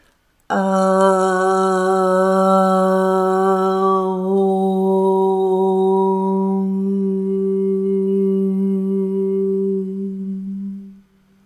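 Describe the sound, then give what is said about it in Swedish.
During a guided meditation, a single voice chants a long, steady Aum mantra, an open vowel that narrows into a humming close, held for about ten seconds at a clear, even volume before fading out. “Och vi tonar in oss med mantrat Aung.”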